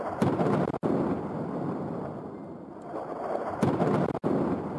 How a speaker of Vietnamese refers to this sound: Đạn pháo kích và súng nổ vẫn tiếp tục ở Aleppo.